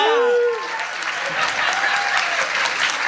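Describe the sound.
A crowd breaks into steady, sustained applause, a dense wash of clapping lasting several seconds, with a brief raised voice or cheer at the very start.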